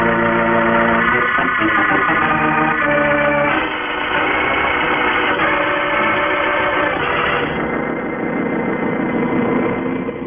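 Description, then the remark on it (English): A jet boat engine roars continuously at full power, loud, its steady droning hum shifting slightly in pitch throughout, with no voices present. “She's taking all she can, and my cooling pumps are working their limit.”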